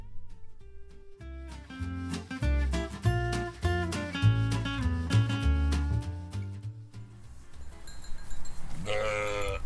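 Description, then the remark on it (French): Ewes bleat loudly and continuously during milking at a collective's mobile milking station in a field between Le Beaufort and the cantonal road, at 7 a.m. while still dark, with 13 ewes in milking at season's end; many voices overlapping, with repeated metallic clanks and knocks from equipment, ending in a burst of higher, shriller bleats. “pour la traite des brebis”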